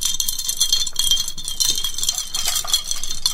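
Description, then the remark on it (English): Continuous bright rattling and clinking, like ice shaking in glasses, from two fancy drinks with umbrellas, fairly loud for a few seconds with no talking. “That's not an example of my incredible sound design skills. Nope, that's two drinks.”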